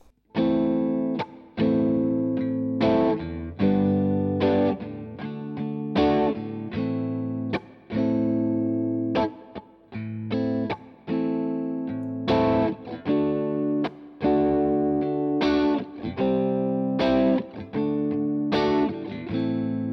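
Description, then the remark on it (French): An electric guitar plays a minor blues chord progression alone, including passing chords such as G and C, with steady, evenly spaced strummed chords that ring with an overdriven, chorus-like tone and shift harmony throughout. “Voyons la grille dans son ensemble, on verra bien où tombent les deux accords en question.”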